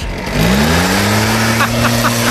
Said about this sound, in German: Ja, der Laubbläser ist wieder im Einsatz. Alle Jahre wieder.